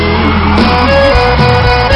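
A large crowd shouts and cheers loudly and continuously for about two seconds after a host asks them to shout, a dense roar of many voices with sustained music tones running underneath.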